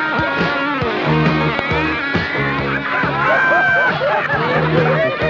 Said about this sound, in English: What you've gone and done, now you've gone and let that awful crowd in. Why did you have to open the door? What do you want to open the door for, honestly?